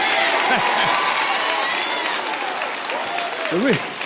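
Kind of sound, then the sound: crowd, audience clapping hands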